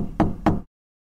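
knocking on a door

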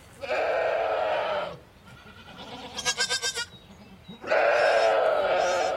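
goats bleating

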